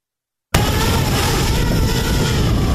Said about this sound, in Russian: Да, ветер сильный.